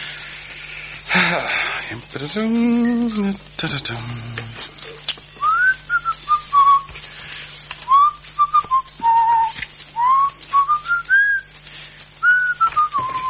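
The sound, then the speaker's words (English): Someone whistles a melodic tune, clear, with a series of rising and falling phrases after a few seconds of hissy, breathy noise and low hum at the start. “I have to pay APRA for that whistling, do I?”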